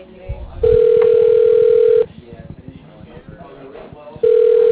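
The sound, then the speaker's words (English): A telephone rings with a steady electronic tone in two long bursts, separated by a gap of about two seconds, while faint voices murmur underneath. “Answer the phone.”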